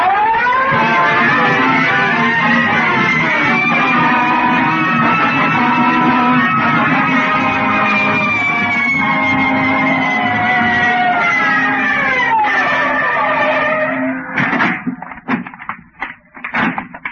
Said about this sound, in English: Red light, siren. Let's go.